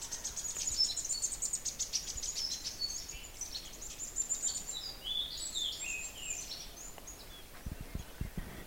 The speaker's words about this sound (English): But before I go, listen to that chickadee. That's the phoebe song of the chickadee. Doesn't really sound like a phoebe at all, but it's that two-noted